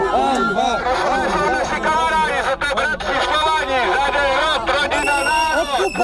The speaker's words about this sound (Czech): Lidé z obou skupin na sebe křičeli svoje hesla.